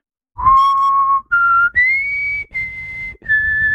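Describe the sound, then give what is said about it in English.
A person whistles a short musical theme melody of about five clear, sustained notes that step upward in pitch, fairly loud with no talking. “No, you're whistling.”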